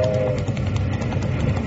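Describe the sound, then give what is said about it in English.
A train rumbles along the railroad track, a steady heavy roar with rhythmic clacking pulses and a brief tonal hum near the start, fairly loud, with no talking. “Hey, stop that iron horse. There's a boulder on the track!”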